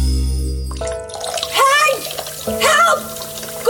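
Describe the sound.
Water pours and splashes steadily across a flooded kitchen floor from a blocked kitchen drain, at 6:30 in the evening, a continuous rushing wash that starts after a brief musical tail, with voices talking over it.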